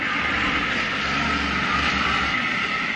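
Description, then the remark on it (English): A truck rolls past with a steady, loud engine rumble and broad roaring road noise that holds evenly across the whole few seconds, with no voices over it. “oh, truck, go away.”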